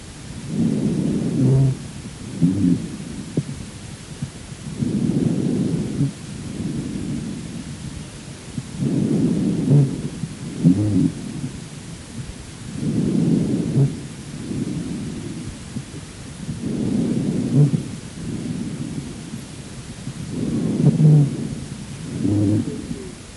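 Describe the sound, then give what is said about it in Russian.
Low-pitched, snoring-like dry rhonchi heard through a stethoscope in a patient with chronic bronchitis, over harsh breathing, rumbling with each of about six steady breath cycles, each breath a loud rumbling burst, with no talking. “Послушайте другой вариант сухих басовых хрипов.”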